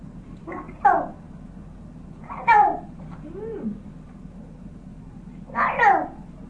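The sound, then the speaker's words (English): A voice imitates a cat meowing, giving three or four drawn-out, falling meows spaced a second or two apart over a low background hum. “Cats and woof.”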